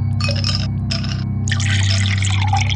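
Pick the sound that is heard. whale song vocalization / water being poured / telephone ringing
water being poured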